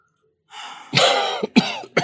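A person coughs: a breathy intake, then a long harsh cough followed by two shorter, sharp bursts in quick succession, with no talking.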